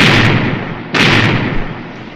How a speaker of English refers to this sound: Aye, there's the sound of adventure. Cannon firing. Must be a pirate force attacking a fort. Aye, there they be. A pirate galleon giving a broadside to a Spanish fort.